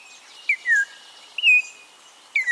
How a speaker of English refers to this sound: From a wooded thicket along the lower Rio Grande River comes a rich, whistled song. Your eye catches a flash of brilliant orange. There's the singer, an Altamira oriole. A dashing bird.